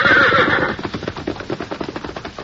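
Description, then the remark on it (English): A red horse lets out a loud, shrill whinny, then rapid hoofbeats gallop off, the rhythmic clip-clop fading slightly as it is set free and runs back toward the hills. “Go on, red horse. Run yourself back to the hills.”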